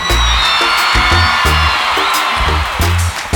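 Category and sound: crowd, crowd applause and cheering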